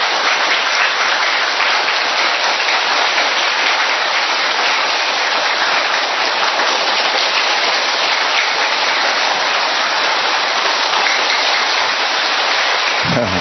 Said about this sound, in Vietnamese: Chúng ta cùng vỗ một tràng pháo tay, đốt một tràng pháo tay thật lớn, thật to và thật dài để chúng ta chào mừng nhau trong những ngày Tết sắp đến, thưa anh chị em.